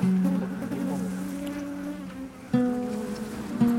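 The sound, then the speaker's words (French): Honeybees buzz steadily around an opened beehive as a honeycomb is taken out, a dense drone with overlapping pitches that swell briefly as individual bees pass by. No one speaks. “Et là, vous nous ouvrez la ruche et on voit des abeilles et vous sortez un beau rayon de miel.”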